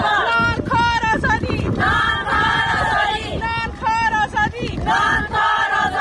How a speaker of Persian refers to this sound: فریاد زنان افغان تا آسمان راهپیمایی اعتراضی اعضای ائتلاف مستقل جنبش های اعتراضی زنان افغانستان در اسلام آباد پایتخت پاکستان برای آزادی همقطارانشان.